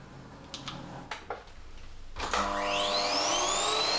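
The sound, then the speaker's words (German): A few sharp clicks and knocks, then a vacuum cleaner switches on, its motor whining up in pitch and settling into a loud, steady roar with no one talking. “Das MKE 200 setzt auf eine Kapsel mit Souvenir-Charakteristik, die präzise Aufnahmen mit weniger Hintergrundgeräuschen wie aktuell im Staubsauger ermöglichen soll.”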